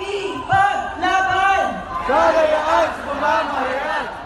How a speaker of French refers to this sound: Et puis, cette foule de Philippins réunis hier soir à Manille pour appeler à la libération de Ressa.